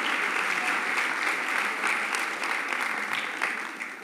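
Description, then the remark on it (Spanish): A church audience claps together for God in steady, dense applause, a bright continuous patter of many hands that holds for several seconds before easing slightly at the end. “Vamos a darle un aplauso a Dios, es broma.”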